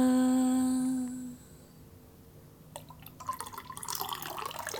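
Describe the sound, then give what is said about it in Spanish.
A sustained musical tone fades out, then after a short quiet stretch water starts falling and dripping in quick, irregular splashes that grow busier until the end. “Cae agua.”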